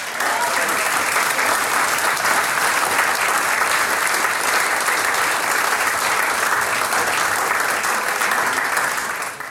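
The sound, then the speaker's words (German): Steady, dense audience applause with many hands clapping at once, loud and continuous for the whole stretch, tapering off only slightly at the very end; applause for a young schoolboy performer. “Jetzt kriegst du noch einmal einen Applaus und dann freuen wir uns auf dein zweites Stickel ein bisschen später.”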